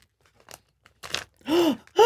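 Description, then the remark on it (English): A vacuum-sealed plastic package of prosciutto from Fiesta Farms being opened: a few short crinkling, tearing bursts, then louder drawn-out squeaky stretching sounds as the plastic gives way. “So we have this vac sealed hunk of beautiful prosciutto.”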